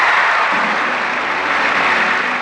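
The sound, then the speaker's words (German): Steady, loud applause from a large audience at the 1967 Academy Awards ceremony as Anne Bancroft, in a black evening dress, walks from the auditorium onto the stage, a dense continuous clatter of many hands clapping with no talking over it. “Die Frau im schwarzen Abendkleid, die dann unter Applaus aus dem Zuschauerraum auf die Bühne tritt, ist aber nicht Liz Taylor, sondern ihre Schauspielerkollegin Anne Bancroft.”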